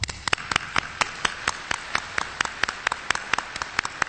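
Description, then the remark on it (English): A conference audience applauds a speaker steadily, a dense wash of many hands with sharper claps standing out in an even, rapid rhythm, fairly loud throughout, with no voices. “Ladies and gentlemen, please give him another warm round of applause.”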